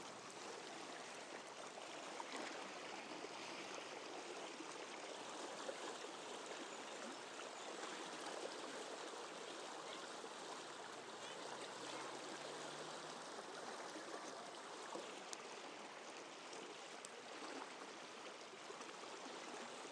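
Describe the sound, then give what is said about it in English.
A fast-flowing stream gurgles and rushes steadily, heard from quite close to the water beside a rail, a continuous bright wash of water with no voices, the churning sound holding even throughout. “It's a good sound, sir. Yeah. I like the gurgly one.”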